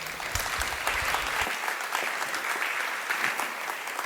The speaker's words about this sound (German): Einen großen Applaus, herzlich willkommen.